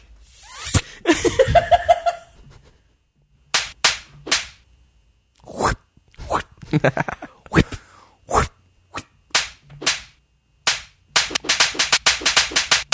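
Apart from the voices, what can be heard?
whip cracking sound effect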